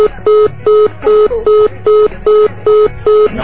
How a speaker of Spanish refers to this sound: No está. Está el tutú del teléfono nada más.